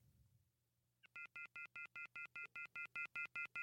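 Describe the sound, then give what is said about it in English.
A corded telephone's off-the-hook warning tone: loud, harsh electronic beeps pulsing rapidly and evenly, about ten in a row, starting abruptly after a second of quiet room noise, with no one speaking. “It may not have in 1935, but just to play this really quickly for you, in case you're curious what an off the hook phone sounds like.”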